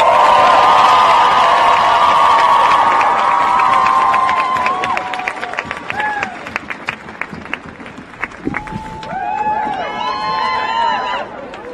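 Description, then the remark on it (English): A large rally crowd of thousands of people cheers and applauds loudly, with sustained roaring and dense clapping that gradually thins out, leaving scattered whoops, whistles and individual shouts near the end. “There is so much strength and gumption in this crowd, and we will need it all.”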